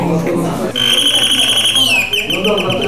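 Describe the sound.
A Soviet-made telephone rings with a shrill, rapidly trilling high-pitched bell that starts after a moment of talk and keeps going loudly, dipping slightly in pitch, while voices murmur underneath.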